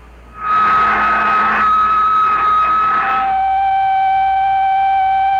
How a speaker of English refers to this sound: Check instruments. I'm going to pump out the lock.